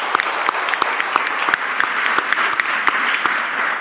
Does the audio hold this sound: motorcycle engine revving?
no